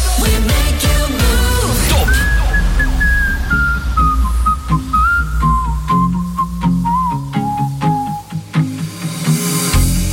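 whistling melody

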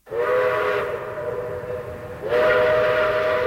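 train whistle

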